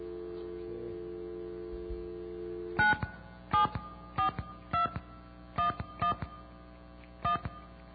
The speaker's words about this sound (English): Dial tone, please. No dial tone. Oh. There we go.